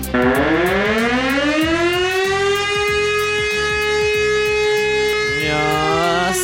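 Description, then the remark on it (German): A fire brigade civil defense siren in Leobersdorf, Austria, sounding in the nationwide civil protection test alarm at noon, wails loudly and steadily, its tone rising then holding a long sustained pitch before dipping and swelling again, with a rhythmic mechanical pulsing underneath. “Sirenenprobe beim Zivilschutzprobealarm ist wieder angesagt in ganz Österreich am 6.”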